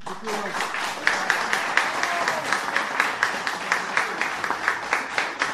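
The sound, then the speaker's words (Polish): A crowd of Marszewiec villagers applauds the result of a consultation vote on Marszewiec separating from Rożnów to form a new village district. The applause is steady throughout, a dense patter of many hands with a few sharper individual claps rising above it, and a faint murmur of voices underneath. “Tak marszewiacy oklaskują wynik głosowania w sprawie tego rozwodu.”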